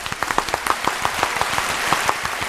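An audience claps steadily, many hands producing a dense, even patter of sharp claps with no voices over it, holding at a moderate level throughout.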